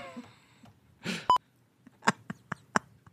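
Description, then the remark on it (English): A single short, high electronic chirp like a smoke alarm's low-battery beep sounds once, loud, after a brief breathy rush, followed by several sharp, scattered clicks. “I gotta go change my batteries. And my smoke alarm.”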